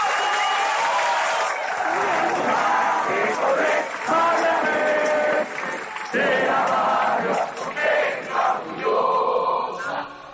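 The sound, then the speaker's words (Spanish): A large crowd of protesters outside claps and shouts together while negotiations take place, a dense, continuous roar of cheers and yelling voices that stays loud throughout, with brief dips before surging again. “Sin la presión de ustedes aquí afuera, sin los aplausos que ustedes hicieron mientras estamos discutiendo, sin los gritos que ustedes dieron mientras nosotros estamos discutiendo, nosotros no hubiéramos podido llegar a estos acuerdos.”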